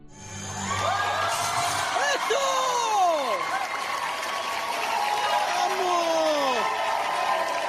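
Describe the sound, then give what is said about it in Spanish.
A large audience cheers and applauds loudly for a juggler performing with 11 balls in California, USA. Excited shouts and rising-falling whoops rise above a steady wash of clapping that continues throughout. “Es verdad que los gritos y los aplausos del público lo dicen todo.”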